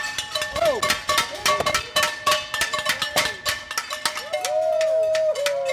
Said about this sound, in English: Soon enough at 7 o'clock, we head outside, where some very prompt neighbors have already gathered with pans and noisemakers they use every night.